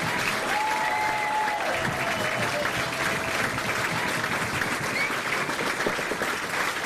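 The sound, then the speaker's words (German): Loud, sustained applause and cheering from a large audience for the performing artists, dense clapping mixed with scattered cheers and whistles, steady throughout. “Kräftiger Applaus und Jubelrufe sind das Brot der Künstler.”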